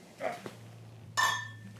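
beer bottles clinking together

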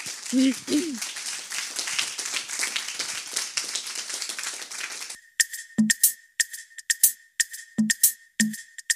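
audience applause

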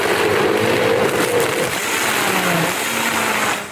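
high-performance blender running

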